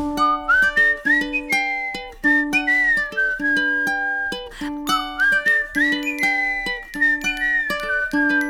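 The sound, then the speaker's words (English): A person whistles a lilting melody over a bright, plinking instrumental backing, the whistled notes gliding and sustaining clearly in the foreground throughout. “I whistle as I walk”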